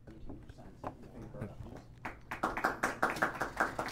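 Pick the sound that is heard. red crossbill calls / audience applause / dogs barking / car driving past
audience applause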